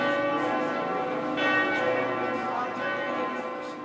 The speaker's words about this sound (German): zwei von vier neuen Glocken, die seit dem heutigen Reformationstag über der Leipziger Thomaskirche erklingen.